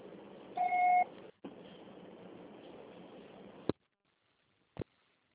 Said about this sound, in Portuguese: Grave seu recado. Seu pessoal será tarifado após o sinal.